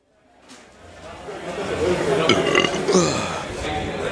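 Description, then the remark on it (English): A long, drawn-out burp rumbles, swelling in the first second and holding loud and gravelly for several seconds with no talking over it. “We should do like just a whole show of burps.”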